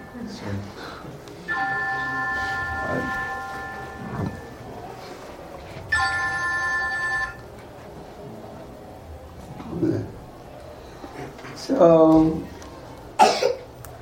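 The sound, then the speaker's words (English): A phone rings twice in steady electronic tone bursts, each lasting a second or more, clearly audible over background murmuring, with a few coughs and voices around it. “Yeah, is your phone?”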